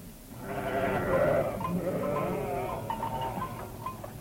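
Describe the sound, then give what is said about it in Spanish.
Several goats bleat over one another in a continuous, overlapping chorus, moderately loud, with wavering cries rising and falling throughout. “Y cuando vieron cómo roncaba el pastor, entraron en el prado, cogieron las cabras y se las llevaron todas para venderlas.”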